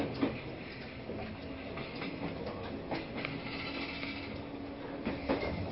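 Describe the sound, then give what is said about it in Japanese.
A JR East limited express train, the Kusatsu No. 3 and Minakami No. 3 running coupled as 14 cars, runs steadily along the rails, a continuous rumbling roar with occasional sharp clacks from the wheels passing over rail joints. “この列車は10時ちょうど発、特急草津3号万座笠口行きと特急水上3号の水上行きです。”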